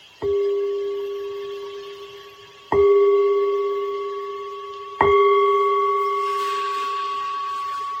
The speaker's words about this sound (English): with the sound of the bell, we'll start and end with the bell. So listen.